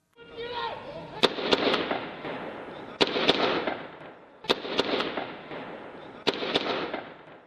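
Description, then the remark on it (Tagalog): Sharp gunshots and explosions crack out in small clusters of two or three, separated by short pauses, over a constant rumbling, roaring background that swells after each burst, as special forces storm the Splendid Hotel in Ouagadougou, Burkina Faso. “Putukan ng mga baril at mga pasabog.”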